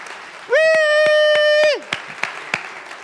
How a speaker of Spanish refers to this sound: Tenemos un Dios amoroso, poderoso. De un aplauso al Señor, vamos.